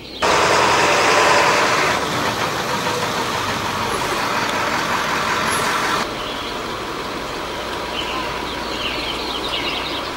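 A school bus engine runs steadily with a broad, rumbling hum and brighter mechanical noise on top, dropping slightly after several seconds, with faint bird chirps and no talking; the bus picks up a girl at her house early in the morning in a quiet residential area of Saginaw, Michigan, on a sunny day.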